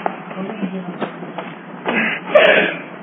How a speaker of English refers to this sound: I suppose every time I clear my throat, it'll come on this mic.